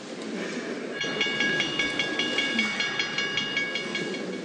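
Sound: train arriving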